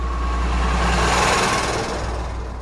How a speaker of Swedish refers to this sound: De startar den och backar ut den på vägen. Bilen passerar Selma och Osman i hög fart.